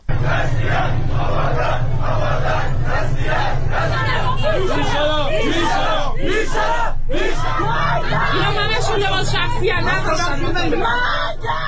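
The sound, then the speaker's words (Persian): A large crowd of street protesters in Andimeshk and Behbahan, Iran, shouts and chants together, a dense, continuous roar of overlapping yelling voices with rising bursts of louder cries, steady and loud throughout. “در اندیمشک و بهبهان نیز گروهی از مردم در همبستگی با آبادان تظاهرات کردند.”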